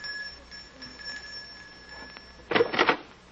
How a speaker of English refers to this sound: It's this door here. Just ring the bell.